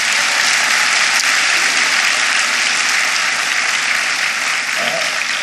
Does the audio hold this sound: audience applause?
yes